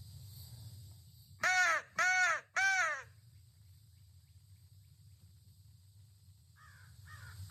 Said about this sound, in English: Talking, having a conversation with my crows. That's me. That's my. You got a crow whistle. And they're talking back. He's answering me back. I don't know where it is. It's up there.